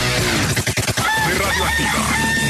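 A rooster crows loudly, one long drawn-out cock-a-doodle-doo that fills the short moment with no talking.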